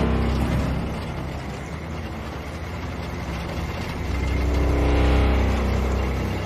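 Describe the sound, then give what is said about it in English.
A truck engine rumbles steadily, a heavy low drone with road noise that swells slightly louder toward the end as the truck approaches a clearing at the end of a narrow road, with no voices. “Jake films over the cab of the truck as it approaches the clearing at the end of the narrow road.”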